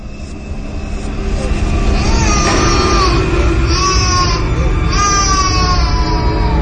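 A child wails in drawn-out, rising cries that grow louder and more insistent, heard over a steady rumbling background noise.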